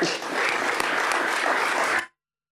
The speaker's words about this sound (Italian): Il Consiglio prende atto del giuramento. Penso che ci vorrebbe anche un applauso.